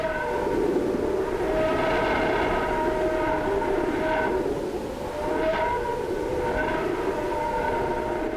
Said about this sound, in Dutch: En ook in het plasma rond de zon ontstaan dergelijke fluittonen dus, en die klinken dan bijvoorbeeld zo, wanneer de frequenties binnen ons gehoorbereik gebracht worden.